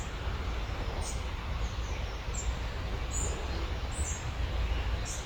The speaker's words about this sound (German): Und du hörst dieses Vogelgezwitscher, all das, was drumherum ist.